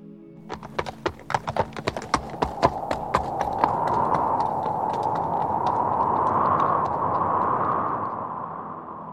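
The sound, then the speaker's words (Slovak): The hooves of a white horse ridden by Martin gallop on a moonlit, starry night in a quick, steady rhythm of sharp knocks, loud at first, then blending into a rising whooshing rush of sharp, cold wind that swells and fades toward the end. “Legenda hovorí, že v mesačnej noci plnej hviezd cvála jazdec. Martin na bielom koni.”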